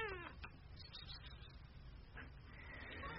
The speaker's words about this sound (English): Hey, kitty, kitty, kitty.